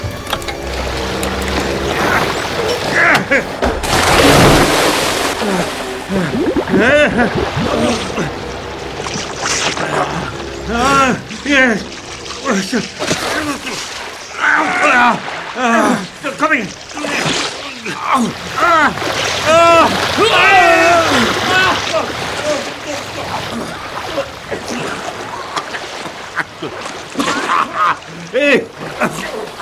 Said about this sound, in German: senkte sich das Heck plötzlich nochmals um 30 Grad, sodass er augenblicklich jeden Halt verlor und beide Männer ins Wasser hinabrutschten.